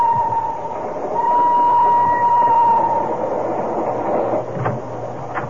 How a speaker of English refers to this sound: The train rode like a broken-down Iowa cattle car.